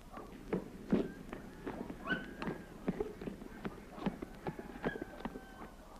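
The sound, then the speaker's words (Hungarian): Horse hooves clip-clop at a steady walking pace, moderately loud, with faint background murmurs beneath the rhythmic hoofbeats. “Ez aztán szép ló.”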